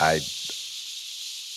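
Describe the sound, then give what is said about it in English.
A voice imitates radio static: a short voiced sound at the start gives way to a steady, breathy, high-pitched hiss held at an even level for over a second. “You do a good Static.”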